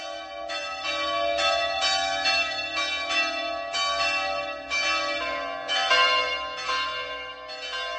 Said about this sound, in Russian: Если тайна серебряного звона не в металле, из которого отлит колокол, тогда в чем?